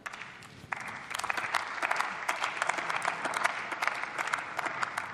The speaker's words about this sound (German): Der Applaus für unsere Soldatinnen und Soldaten zeigt zwei Dinge auf: die parteiübergreifende Wertschätzung hier aus der Mitte des Hauses, aber auch, wie wenig Abgeordnete zu diesem Tagesordnungspunkt noch im Plenum sind.